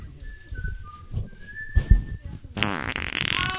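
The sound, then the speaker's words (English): A low sputtering fart with several rumbling bursts over a few seconds, a thin whistling tone drifting above it, ending in a louder, raspier blast. “Your turn. Fart now.”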